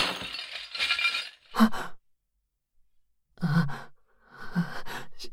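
household object, dishes breaking

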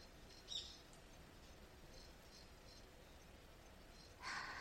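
bird, birds and insects calling

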